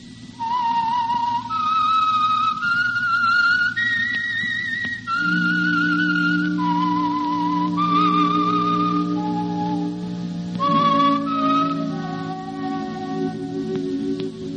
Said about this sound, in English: Whistle is your signal for the Signal Oil program, The Whistler.